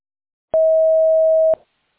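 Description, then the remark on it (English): A single steady electronic beep, about one second long and fairly loud, begins and ends with a slight click, then silence: the voicemail tone signaling the start of recording a hello message. “Record your Hello, message at the this tone.”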